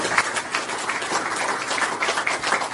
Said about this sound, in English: And with that, everybody give a round of applause for Brian Sonderman.